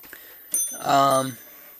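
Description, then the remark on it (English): The bell of a small battery-powered brass alarm clock rings in one short, bright burst lasting about half a second, then stops, leaving silence. “I don't think I'll mess with it because I don't know which one of these things controls the time and or the alarm.”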